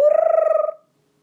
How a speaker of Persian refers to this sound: قور. صدای چیه بچه ها؟ قور. آفرین، رسید به قورباغه.